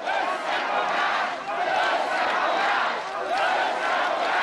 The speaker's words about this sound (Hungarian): Hosszú ideig nem tudta elkezdeni a beszédét, mert a tömeg azt skandálta, összefogást. Az MSZP szerint előre megszervezték az akciót, és Gyurcsány Ferenc állhat mögötte.